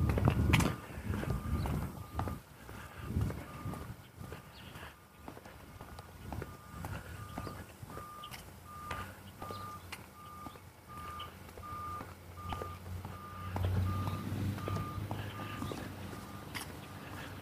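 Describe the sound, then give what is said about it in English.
A large truck idles and rumbles nearby while a steady backup alarm beeps in a regular pulse, with clanks and mechanical thumps from working equipment; no one speaks. “I'm not sure if it's a pump or a concrete pourer or looks sort of like it might be a storm drain vacuum or something.”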